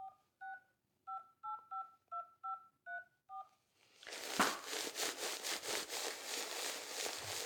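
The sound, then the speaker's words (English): About ten quick touch-tone beeps as a phone number is dialed, each a short two-note electronic tone, followed by a loud, steady rhythmic rasping or rustling noise with no talking. “Let's call the girls and let them know.”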